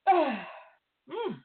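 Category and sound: human body sound, a person sneezing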